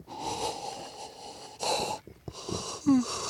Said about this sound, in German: Gähnst du jetzt hier oder was? Sauerstoffmangel.